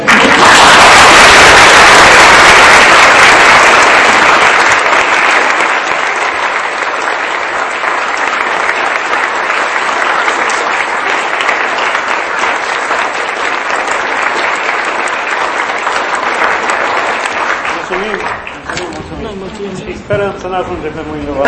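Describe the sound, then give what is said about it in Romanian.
A sustained round of audience applause for doctors fills a reverberant church, loud and dense at first, then gradually thinning out over about twenty seconds as a voice begins speaking near the end. “Îi felicit și cred că chiar dacă e biserică trebuie să-i aplaudă.”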